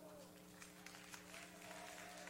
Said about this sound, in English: Are we cheering that 2025 is over? Some of you had a bad year, apparently.